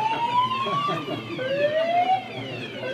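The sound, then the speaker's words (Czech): A loud general alarm siren, set off by someone lighting a cigarette at an exhibition in the Metropol, wails continuously, its tone gliding slowly upward, dropping back, then climbing again, with a rich buzzy edge and a low rumble underneath. “Na kakvim dogovorima sa Mađarskom se radi nismo dakle saznali zbog alarma za uzbunu.”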